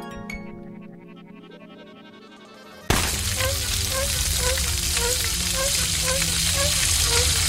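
After a few seconds of low sustained musical tones, a loud, dense crackling roar of burning fire cuts in abruptly and continues steadily, with faint repeating chirpy notes running over it.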